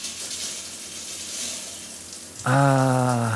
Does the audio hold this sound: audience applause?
no